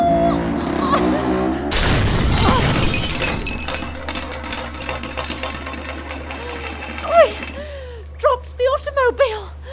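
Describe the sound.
A car, held up by hand while its tire is being stolen, drops with a loud, sudden crash, followed by several seconds of rattling clatter; voices are heard before and afterward.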